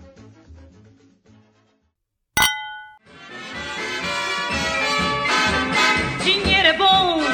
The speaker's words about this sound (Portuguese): Brinde história? Tchim, tchim. Tchim, tchim.